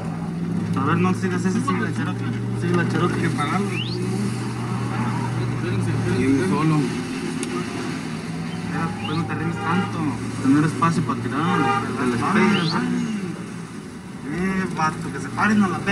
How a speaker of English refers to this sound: Chasing cars and shooting.